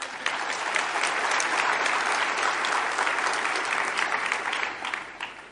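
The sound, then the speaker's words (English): Steady applause from a large crowd at a convention in a very full hall, a dense wash of many hands clapping at an even level for several seconds before easing off slightly at the end. “So I'm glad you applauded before I tell you this.”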